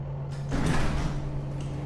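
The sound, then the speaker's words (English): A large mechanical bay door grinds and rumbles as it slowly slides upward open, a steady motor hum running beneath a broad, swelling rush of noise that peaks midway and then eases. “3 minutes later, the bay door slowly rose,”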